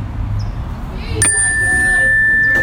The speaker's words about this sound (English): And so I have this bell chime and do the chime and inhale and exhale, and we inhale positivity and healing and love and light, and exhale negativity and anger and anything that disturbed you throughout the day.